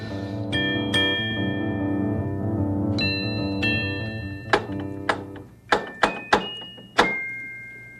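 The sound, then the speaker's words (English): A soft, chiming melody plays, then about six sharp metallic knocks on a door knocker strike in an uneven rhythm, with the last blow the loudest and ringing out briefly. “Somebody knocking on my knocker?”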